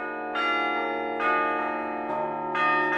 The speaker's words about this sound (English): what do you feel when you're in here playing the bells?